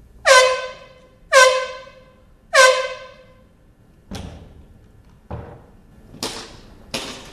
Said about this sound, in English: Because most of us aren't used to the sound of gunfire and wouldn't expect to hear it, especially in a school, trainers used air horns, which could eerily be tracked as the shooter got closer.